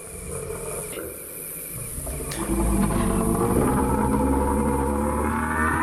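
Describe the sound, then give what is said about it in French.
A deep, rumbling diplodocus call, a drawn-out groaning bellow that swells louder after about two seconds and holds steady with layered, droning tones, heard alone without any talking. “Un Diplodocus. Exactement.”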